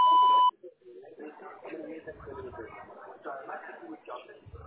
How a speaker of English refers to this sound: To connect and talk, just say your name and what you're calling about after the beep.